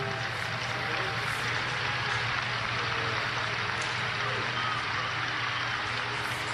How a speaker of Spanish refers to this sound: Yo creo que los aplausos son más elocuentes casi que las palabras.